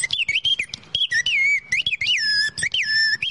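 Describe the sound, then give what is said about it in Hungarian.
A piston bird whistle imitating a songbird is blown in quick bursts, its shrill tone sliding up and down as the piston is moved, warbling like birdsong, with brief gaps between phrases and no talking. “Ez egy dugattyús madársíp.”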